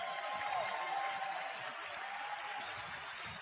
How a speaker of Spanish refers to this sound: Y aquí estamos. Así es que un aplauso para ustedes.